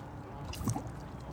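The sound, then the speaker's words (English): A single soft plop as a rowboat oar dips below the surface of a river, brief and fairly quiet against a low, steady outdoor hush. “You hear only the plop of the oars dropping below the surface.”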